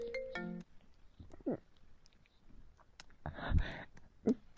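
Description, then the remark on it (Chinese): A mobile phone ringtone for an incoming call from a father plays a short, bright electronic melody at the start, then cuts off, followed by quiet rustling, a few clicks and a louder muffled bump. “你爸爸来电话了，不要接，求你了，别接。”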